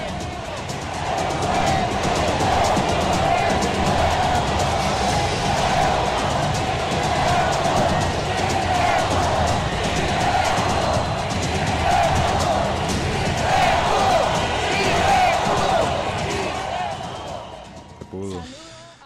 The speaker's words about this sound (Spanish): Sí se pudo, es lo que le gritaban los seguidores del pacto histórico